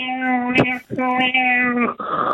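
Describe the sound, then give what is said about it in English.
A voice imitates a cat being sucked into a black hole while breathing, modelled on an emergency siren in the Bourne Identity films: two long, steady, buzzing wails split by a short gasp, trailing off into a breathy, rasping exhale, loud. “I would make the sound of a cat being sucked into a black hole while breathing”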